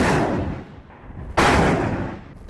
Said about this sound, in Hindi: तो ये धमाके बहुत शोर मचा रहे हैं। नीचे घाटी में इनका क्या असर हो रहा होगा, यहाँ से कुछ कह पाना संभव नहीं है।